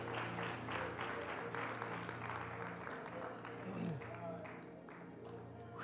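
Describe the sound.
An audience claps steadily and loudly for several seconds, a dense wash of overlapping hand claps with faint crowd voices mixed in.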